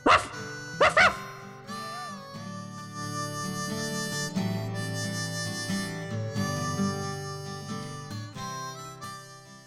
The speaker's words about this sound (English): Woe to you, that bloody Droover's dog. Ruff!